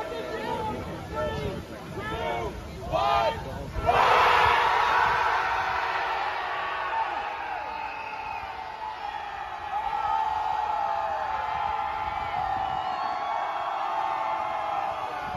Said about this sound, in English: Watch a bunch of game developers screaming in a public park to protest the state of the industry.